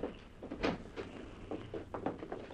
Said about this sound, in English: There were only a few steps from the glassed-in wheelhouse down into the cabin. The cabin door suddenly opened, and Rocky came up the gangway into the dimly lighted wheelhouse.